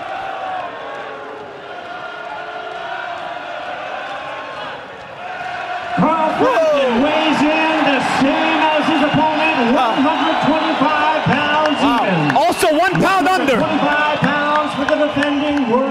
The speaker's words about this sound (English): And the crowd goes wild. Listen to this crowd. They're getting amped up. Listen to this crowd.